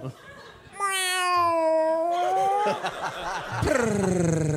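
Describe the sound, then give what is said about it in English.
A person imitates a cat with two long, drawn-out meows, the first sustained and wavering, the second rising sharply near the end, voiced loudly. “Do we all start doing it? Meow.”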